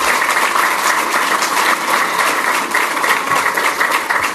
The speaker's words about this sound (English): You can clap for that.